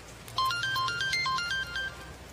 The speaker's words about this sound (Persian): جواب تلفن خواهر رو نمیشه نداد.